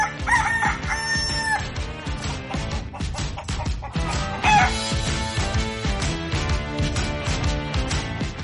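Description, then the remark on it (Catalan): A rooster crows loudly near the start and again about halfway through, each call over a busy, full musical backing that plays throughout, in the IB3 Ràdio jingle for L'hora del gall. “L'hora del gall.”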